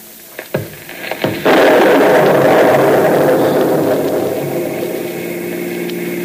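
A few sharp crackling snaps lead into a sudden loud crash of thunder from a lightning storm, which rolls on as a broad, heavy rumble and slowly fades over several seconds.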